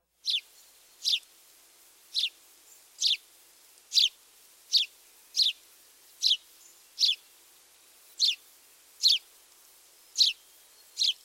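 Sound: house sparrow song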